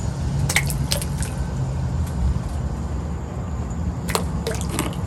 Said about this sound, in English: tossing ice cubes into the marina water.